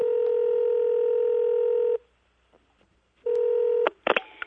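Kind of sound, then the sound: signal or alarm, telephone keypad dialing tones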